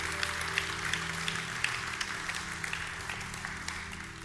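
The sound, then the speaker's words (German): An audience applauds steadily for about four seconds for those who have just made a decision to confess Jesus Christ as Lord, a dense wash of many hands clapping at an even loudness, with a low sustained hum running underneath. “Gib doch mal einen Applaus für all diejenigen, die diese Entscheidung getroffen haben.”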